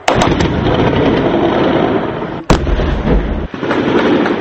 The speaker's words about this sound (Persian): اما آنطور که شاهدان عینی گفتند در شهر زاویه درگیری‌ها بسیار شدید و شهر تماماً زیر آتش توپخانه و گلوله بوده است.